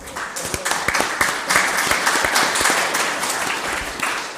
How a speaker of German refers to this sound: also erstmal einen herzlichen Applaus dafür.